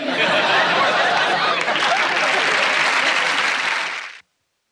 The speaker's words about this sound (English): Well, folks, what do you think? Let's hold the applause till the end.